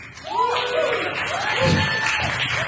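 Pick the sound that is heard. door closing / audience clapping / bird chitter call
audience clapping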